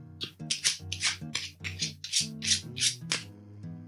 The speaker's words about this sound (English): Okay, so let's shuffle these cards and see what we should affirm.